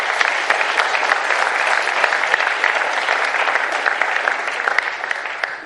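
A room full of people clapping steadily for several seconds, a dense, even patter of many hands that holds strong throughout and tapers only slightly at the end.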